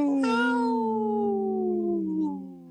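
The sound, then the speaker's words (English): A person does a wolf-like birthday howl, one long, loud, sustained vocal tone that starts with a breathy burst and slowly slides downward in pitch before trailing off. “That's my birthday howl.”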